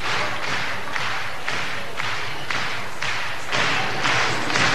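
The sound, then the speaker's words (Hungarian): An audience applauds steadily at a meeting held by Magyar Média, the dense crackle of many hands swelling in a regular rhythmic pulse about twice a second, as if clapping in unison. No one speaks. “Remélem, e taps nem csak a gyönyörű hölgyeknek szól, hanem ezzel a tapssal és egy meghajlással én is köszönöm a Magyar Médiának ezt a nagyszerű találkozót”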